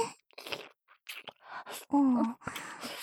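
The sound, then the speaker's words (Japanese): Wet mouth sounds of someone gulping down saliva: a run of short gulps and smacks, with a low groaning voice in the middle, fairly quiet overall. “ゴクゴクしてるの見ると、あんなキモいおじさんの唾液でも、美味しそうに見えてきて。”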